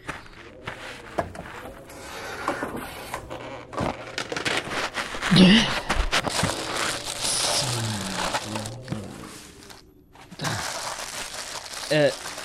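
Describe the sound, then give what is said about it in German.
Busy crinkling and rustling of a plastic tarp, taken from the back of a car, being unfolded, with irregular crackling bursts throughout and a louder crunch midway; faint voices murmur underneath. “Als erstes braucht man so eine Plastikplane. Hinten im Auto müsste eine liegen.”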